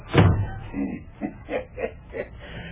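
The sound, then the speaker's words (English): A parlour door is pushed shut with a heavy, low thud at the start, followed by several softer, evenly spaced knocks or rattles as it settles. “Well, shut the door and be private, I think.”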